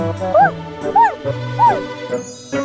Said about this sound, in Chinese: 原来是小狗豆豆在叫。